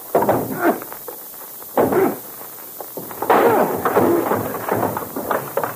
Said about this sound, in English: Now, listen. We'll knock once. The door isn't open. We'll kick it in.